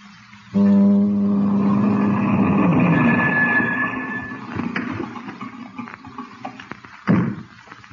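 A car engine rumbles in abruptly as a car approaches, with a steady, low droning hum that gradually fades, followed by scattered clunks and one loud thump near the end. No one speaks.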